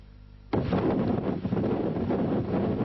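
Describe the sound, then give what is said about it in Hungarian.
After a brief, quiet low hum, a loud, roaring rush of strong overnight wind from storm Kirill in Hungary bursts in and keeps blasting steadily, with slight surges and buffeting against the microphone. “A katasztrófavédelem adatai szerint az éjszakai erős szélben senki nem sérült meg, de több száz alkalommal riasztották a tűzoltókat, elsősorban fakidőlésekhez és ledőlt kéményekhez.”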